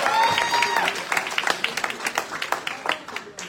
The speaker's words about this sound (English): Will you give the guys a round of applause?